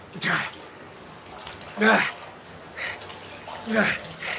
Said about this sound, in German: Wieder beginnt das hektische Ausschöpfen mit dem Topf.